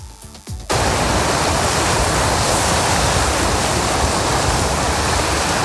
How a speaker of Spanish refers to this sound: Los sueños del presidente del gobierno ya están acunados por las olas del océano que rompen en la piedra volcánica de la isla de Lanzarote, en concreto en el Palacio de la Mareta, donde está.